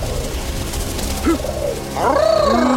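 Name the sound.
pigeons cooing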